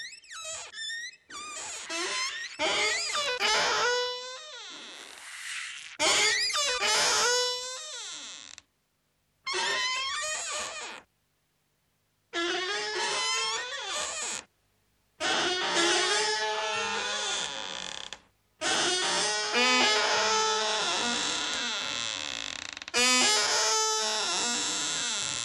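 Musique concrète built from a creaking door: long, strained, squealing creaks with wavering pitch, broken by abrupt silences and breathy sigh-like tones, loud and without speech.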